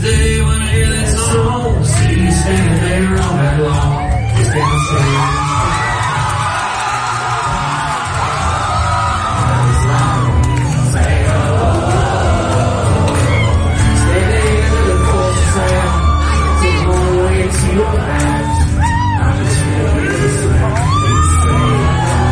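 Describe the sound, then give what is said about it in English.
A loud concert crowd cheers and whoops continuously, with scattered yells and shouts rising over a dense, roaring wall of noise and music, as a star singer surprises them by walking out from behind the curtain to join the songwriters on stage for one of his biggest songs. “Eric surprised the crowd and walked out from behind the curtain to join them for one of his biggest songs”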